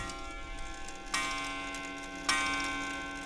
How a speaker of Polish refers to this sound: Cały jest drewniany ten zegar. Najlepszy jest ten aniołek, który jakby prowadzi godzinę, i ta nóżka, która mu w czasie bicia pracuje.